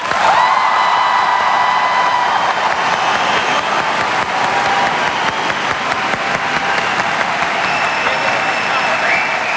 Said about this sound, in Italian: Allora facciamo il metodo classico, applauso. Applausi, vai.